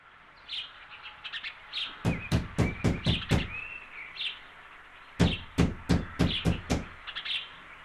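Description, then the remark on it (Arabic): Two bursts of rapid, sharp knocking on a door, about six firm raps each with a short pause between, while birds chirp and tweet softly in the background. “من الطارق؟ أنا سلمى. افتح الباب يا أم سلمى.”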